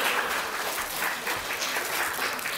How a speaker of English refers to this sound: Round of applause for these guys again.